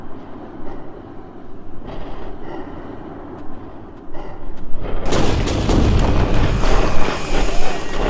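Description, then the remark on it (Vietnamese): A low, restless rumble builds before a violent explosion bursts in partway through, loud, leaving a dense roaring wash of debris-like noise that carries on to the end. “Rốt cuộc, một tiếng nổ mạnh kịch liệt cắt ngang suy nghĩ hoang dã của Cao Đại Bàn.”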